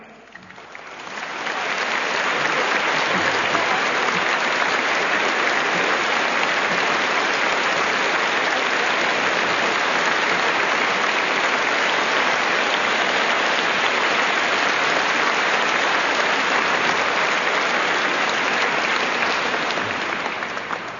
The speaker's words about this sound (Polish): Po tych wspaniałych oklaskach, ojcze Piotrze, ciebie, wszystkich techników, radiowców i całą ekipę tych mediów służących ewangelizacji, witamy na warszawskim Kamionku.